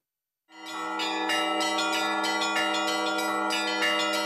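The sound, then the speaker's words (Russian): Church bells of the Annunciation church in Ulyanovsk, Russia, ring out in a continuous peal, with repeated strikes on several bells layered over a sustained, resonant hum. The ringing is loud, with no voices. “Колокольный звон является важной частью церковной жизни любого храма.”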